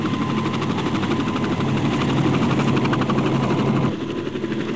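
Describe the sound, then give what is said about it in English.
A jet helicopter over a concert stage, dropping a net that picks up all five band members before it flies off, roars steadily, its rapid rotor chop pulsing over a loud turbine whine, then the sound dips slightly near the end as it carries on. No one speaks. “In seconds, the net drops over the stage, picks up all five …, and the helicopter flies off.”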